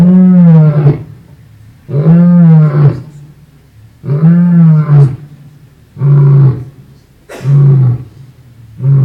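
A lion roars five times in a steady rhythm, each deep, harmonic call lasting about a second with short pauses between, loud, with no talking; an example from the album an album.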